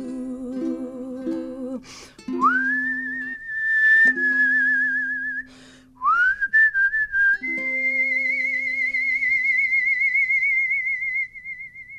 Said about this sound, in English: The singing we knew we'd get, but the whistling is a nice bonus. I mean, you gotta shock them a little.